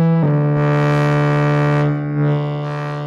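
A sustained tone from a Korg NTS-1 Mark II synthesizer using its hard clip distortion model, with gritty, hard-clipped distortion and dense buzzing harmonics swelling and thinning over about three seconds, loud with no voices.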